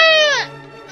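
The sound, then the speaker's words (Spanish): A single plaintive cry from a duckling named Paquito, loud: a high, nasal wail that slides downward and fades after about half a second, followed by quiet. “¿Y ahora por qué estás llorando, Paquito?”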